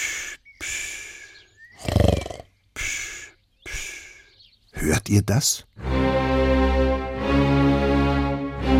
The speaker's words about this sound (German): Der Mann auf der Couch schnarcht nicht wie andere Menschen. Er schnarcht im Dreivierteltakt. Eins, zwei, drei, eins, zwei, drei. Das ist ein Walzertakt.